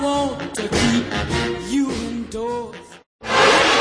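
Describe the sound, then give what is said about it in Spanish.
Several race car engines whine loudly, their pitch rising and falling as they shift and slow while four cars enter the Ford Motorcraft pits, followed by a brief silence and then a burst of roaring noise. “1, 2, 4 coches acaban de entrar en los boxes de Ford Motor Craft”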